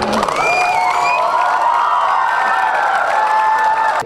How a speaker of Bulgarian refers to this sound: Общо взето гледам аплодисментите, за мен са толкова, колкото и за учителя по физическо възпитание, така ли?